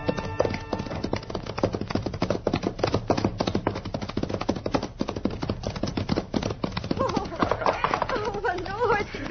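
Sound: horse hooves clip-clopping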